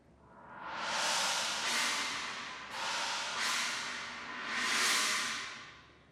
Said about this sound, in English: And then the Chinese cymbal also used in the bomb explosion in Act Two.